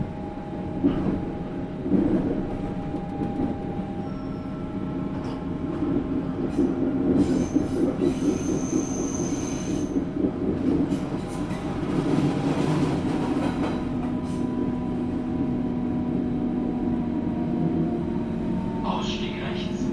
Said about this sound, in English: Endstation. Bitte alle aussteigen. Attention, please. We are now approaching the last stop on the line. All passengers are requested to leave the train.